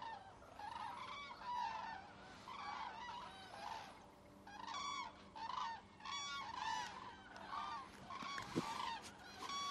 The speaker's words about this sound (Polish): Następne. Ze 20 ptaków przyleciało. Jazgot niesamowity.